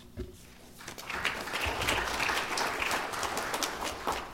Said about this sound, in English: Thank you for the introduction, and I have to tell you, it's the first time I've ever received an applause to come preach a sermon.